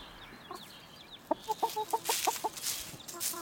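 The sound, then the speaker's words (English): Chickens cluck in a quick run of short, repeated notes, moderately loud, with scattered bird chirps and a faint outdoor hiss in the background. “You know, see if I can make my chickens make some noises.”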